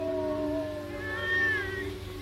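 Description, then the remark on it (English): A coyote howls in the darkness at night in one long, drawn-out wavering wail that rises in pitch midway and then tapers off, with no voices alongside it. “Later, as a coyote howls in the darkness, the men wait in the main room of the station.”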